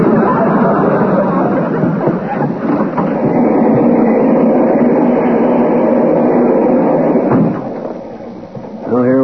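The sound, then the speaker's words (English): A fast-moving passenger train rumbles steadily on the rails, a dense, loud rolling roar that fills the whole stretch and eases slightly near the end, with faint voices murmuring underneath. “Besides, I wouldn't want a barber fooling around with me with a razor on a train this fast.”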